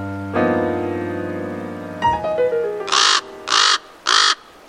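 A raven calls: a drawn-out, resonant croak and a falling note, then three loud, harsh caws in a steady, evenly spaced rhythm, with no talking.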